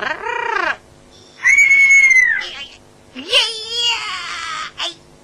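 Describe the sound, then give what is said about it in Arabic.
A rare caged bird lets out three loud, shrill whistling calls, each a bright tone that bends up and down in pitch, with short pauses between them. “لا تخف، طائر جميل.”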